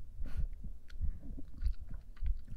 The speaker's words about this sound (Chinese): 是喜欢自己的心跳声，还是喜欢躺在姐姐的怀中啊？